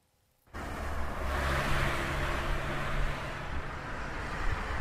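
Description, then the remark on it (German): After a brief silence, loud road traffic roars in and holds steady, a dense rumble of cars with engines accelerating and revving, no voices present. “Herzinfarkte und Schlaganfälle sind dort häufiger, wo der Verkehr besonders laut ist.”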